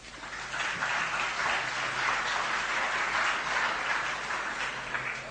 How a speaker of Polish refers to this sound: O, tutaj kolega się zgłasza, zapraszam. Chodź tutaj do mnie na środek. Brawa dla kolegi.